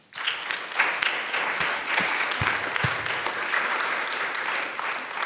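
An audience breaks into steady applause, many hands clapping in a dense, even patter that holds at a fairly loud level for several seconds without any speech.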